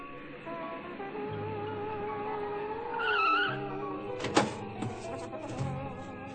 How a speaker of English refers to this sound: It was only about 30 minutes later, actually, that I heard another car.